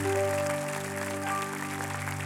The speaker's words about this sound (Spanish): Dele un aplauso fuerte al Todopoderoso Dador de paz.